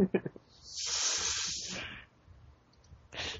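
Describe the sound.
A person lets out a sharp hiss of pain through clenched teeth, a steady airy sound lasting about a second and a half, with brief talking just before and after it.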